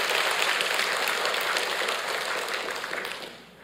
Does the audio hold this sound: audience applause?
yes